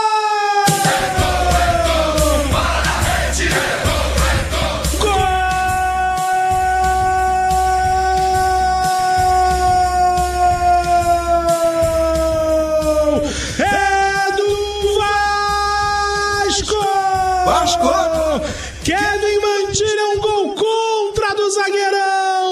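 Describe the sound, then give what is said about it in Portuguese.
A single voice holds a long, loud, sustained goal celebration shout during a football match between Vasco and Independiente Medellín, stretching for many seconds with wavering pitch and brief breaks, dominant over a steady low rumble of crowd noise. “Solta o grito.”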